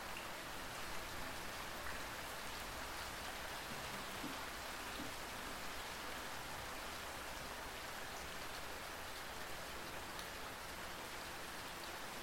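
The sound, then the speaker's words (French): Steady rain falls continuously, a dense, even hiss of drops pattering on surfaces, with no voices and no break in its soft, constant level. “par la musicalité et le rythme de la pluie qui tombe”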